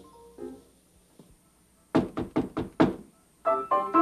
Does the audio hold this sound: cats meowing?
no